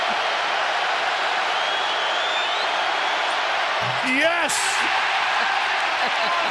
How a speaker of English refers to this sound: And the crowd explodes. I take it all back. Audio courtesy ESPN, I take it all back. You got me so worked up on Monday morning. This is a play-in game. That's right. And they are whooping it up about chicken.